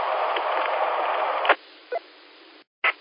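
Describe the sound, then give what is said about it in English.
Band-limited static on a two-way radio transmission from a station using a quarter-wave antenna hisses steadily for a second and a half, then drops to a faint hiss broken by a few short crackling bursts and a brief dead-silent gap. “There's a little bit of static in it, but that's not necessary, and it's not the repeater, not your station.”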